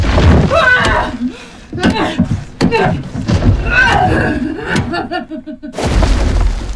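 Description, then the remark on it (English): A woman's heavy fists pound on a wooden coffin lid in loud, uneven bursts of thuds, the banging swelling into a dense, booming flurry near the end over a tonal background. “She batters at the coffin lid.”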